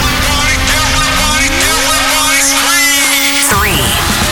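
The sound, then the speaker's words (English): Rocket main engines at launch give a loud, sustained roar with steady droning tones and a rising whine that climbs in pitch, then cuts off abruptly near the end into a brief descending swoosh. “T-minus 10. Main engine. Start.”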